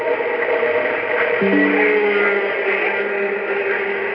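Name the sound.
whale song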